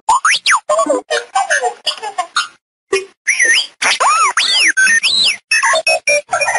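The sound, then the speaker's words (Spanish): R2, the blue-and-white robot droid of the film saga, chirps out a rapid string of electronic whistles and beeps, with swooping high-pitched tones sliding up and down in short bursts and a brief pause partway through. “Nunca dice ni una palabra, solo silbidos y pitidos.”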